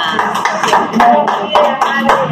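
A group applauds a speaker after a speech about teachers and education, with dense overlapping claps and a few sharper, louder hits standing out, holding a steady, fairly loud level for a couple of seconds.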